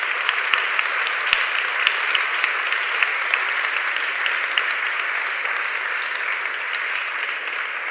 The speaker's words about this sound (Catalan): Doncs ja les tenim totes tres, tres sitgetanes, la nostra artista del cartell, la pregonera i pandonista. Un fort aplaudiment, una altra vegada, un fort aplaudiment per totes elles.